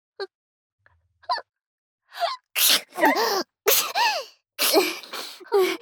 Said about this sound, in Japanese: 私も薬飲んでないからくしゃみ出そう。